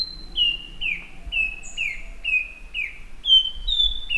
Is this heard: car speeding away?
no